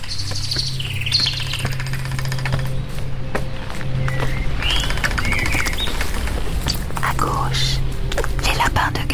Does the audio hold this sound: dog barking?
no